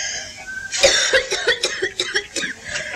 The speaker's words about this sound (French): Alors, de souffrez-vous? Un peu partout. La toux et la fièvre, une espèce de lassitude de combattu.